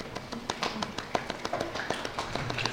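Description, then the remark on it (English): Students in a logic class clap after a volunteered answer, in a loose, uneven patter: many sharp, crisp hand claps overlapping for about three seconds at a moderate, steady level, with no clear rhythm. “Nice for being clapped here.”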